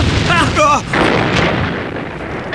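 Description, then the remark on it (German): A heavy explosion booms in a house, followed by a long, loud rumbling roar that slowly fades over a couple of seconds. A brief vocal cry is audible near the start. “Eine Explosion im Spukhaus! Und ziemlich heftig sogar.”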